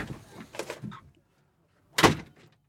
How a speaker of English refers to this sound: He really did leave. He really did leave there. He really did just slam the door.